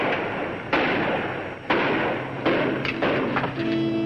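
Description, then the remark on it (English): A rough, rumbling truck engine with bad timing sputters, punctuated by three loud, sudden bangs like backfires at uneven intervals, then settles into a steadier hum with a faint whine at the end. “Sounds like somebody has a truck with bad timing.”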